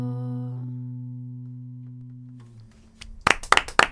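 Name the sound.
applause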